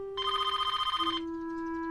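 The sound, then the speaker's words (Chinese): A telephone gives one rapid, trilling electronic ring lasting about a second, bright, then cuts off, leaving only a faint steady tone in the background. “电话，我去接。”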